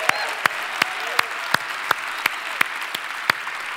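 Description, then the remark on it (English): Audience applause for the young people at the Kent County Juvenile Detention Facility during a sermon: a steady wash of clapping hands, with sharp individual claps standing out at a quick, even rhythm throughout. No voices can be heard. “Let them know that you love them just by way of applause.”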